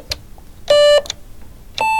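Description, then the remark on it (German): Electronic tuner reference tones, from one of three tuners used while hammering a piece of sheet metal into a steel drum: a steady, bright, buzzy beep lasting about a quarter second, then a higher-pitched one starting near the end, with a few sharp clicks in between and no talking. “Diese 3 Töne sollten so in einer Viertelstunde zu hören sein, aber diesmal dann nicht vom Stimmgerät, sondern von der Klangfläche selbst.”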